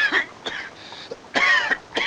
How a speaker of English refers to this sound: After his attempts to shout after the culprit dissolve into coughing, the official heads inside.